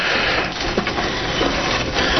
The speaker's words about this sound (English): As we hear the lovely squeaking noises.